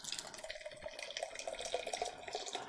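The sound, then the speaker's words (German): Guinness stout from a can pours steadily into a glass, filling it about half full, a continuous bubbly gurgle with fizzy crackle that lasts throughout, with no voices. “Glugger das so ein bisschen raus.”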